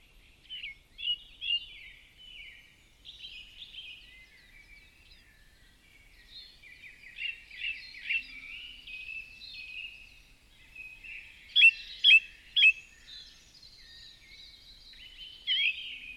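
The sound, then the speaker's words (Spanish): A steady chorus of birdsong in nature just after dawn, several birds chirping and trilling over one another, with a few louder, sharp calls standing out near the end. No voices. “Imagina ahora que estás en un lugar en plena naturaleza, y puedes escuchar el canto de los pájaros. Acaba de amanecer.”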